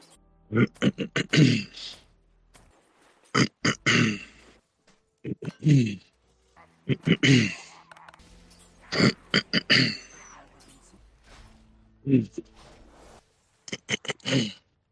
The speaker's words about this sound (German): Wie kann man innerhalb von 30 Sekunden sich so oft räuspern müssen? Trink doch halt einen Schluck Wasser oder irgendwie sowas. Oder von mir aus auch Schwippschwapp. Aber räusper doch nicht ständig ins Mikro rein